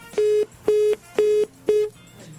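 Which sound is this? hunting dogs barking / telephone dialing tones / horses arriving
telephone dialing tones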